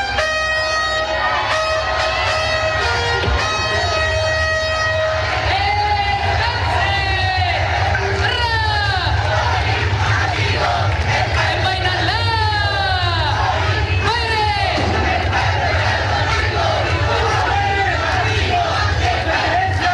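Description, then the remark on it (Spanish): A large crowd outside the Palacio de La Moneda, on Calle Moneda by the Plaza de la Constitución, shouts and chants loudly and continuously as the now former president Boric leaves the palace, many voices overlapping in rising cries of "presidente Boric, el pueblo está contigo", with clapping mixed into the steady roar. “fue el momento, en medio también de aplausos, de gritos, presidente Boric, el pueblo está contigo, era parte de lo que, de los gritos que emitían algunas de las personas que lo esperaban afuera, en la Plaza de la Constitución.”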